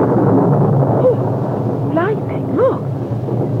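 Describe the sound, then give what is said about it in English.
A loud, continuous low rumble of thunder from a storm with lightning rolls through the whole stretch, with a few brief voice-like tones rising and falling over the roar. “Lightning, isn't it? Scary, but beautiful. Lit up the whole hill.”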